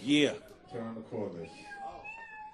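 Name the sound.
cat meowing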